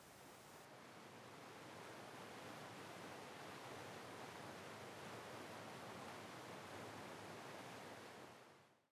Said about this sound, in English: This is a great spot to take a seat and have a little rest if you like, and maybe listen to the sound of the water as it cascades over the weir.